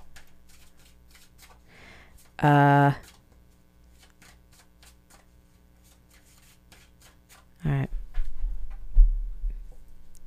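Tarot cards being shuffled one more time before drawing a single card in a reading: a steady stream of quick, soft riffling clicks. A short humming vocal sound cuts in twice, and a low rumble follows near the end.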